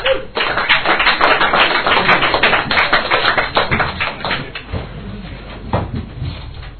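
An audience breaks into applause, a dense, steady patter of many hands clapping for several seconds before thinning out into scattered, fading claps. No one speaks.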